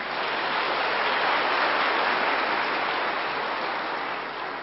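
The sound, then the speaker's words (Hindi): Sustained applause from an audience clapping for themselves, a dense, even wash of clapping that stays loud and steady for several seconds before easing slightly at the end. No voices are heard. “बहुत अच्छी बात है, अपने लिए ताली बजा लो।”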